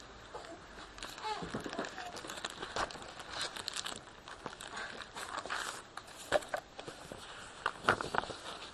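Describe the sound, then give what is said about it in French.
Continuous rustling and crinkling of paper, with repeated soft flips and swishes as sheets are turned over one after another at an uneven pace. “Non, tellement de feuilles qu'à la fin, on sait plus lire.”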